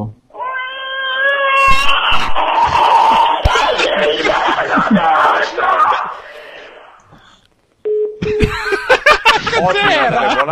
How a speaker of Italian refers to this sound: Ottimo urlo, ma non riuscirai mai ad urlare come me, capito?